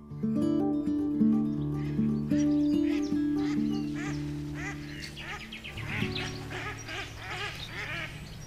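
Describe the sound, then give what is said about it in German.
A flock of ducks quacks loudly and repeatedly, overlapping calls filling the scene with a busy chorus, with a few higher bird calls mixed in. “auf die viel Gegenwart von Vögeln angesprochen, gesteht: Mir selber hört es gar nicht mehr.”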